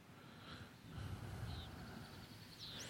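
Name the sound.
birds chirping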